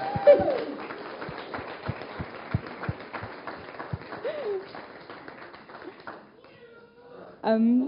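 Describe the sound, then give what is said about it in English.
A small group claps in a steady, rhythmic beat for several seconds to applaud an actor after a performance, moderately loud, then fading out as a brief high vocal sound rises at the end. “Yes, so we're going to give him a clap.”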